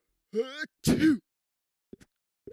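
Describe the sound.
A single sneeze, done on purpose to show how the person usually sneezes: a voiced, drawn-in 'ah' followed by a loud, harsh burst of air, then two faint, short sounds after a brief silence.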